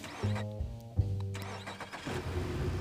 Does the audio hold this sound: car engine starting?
yes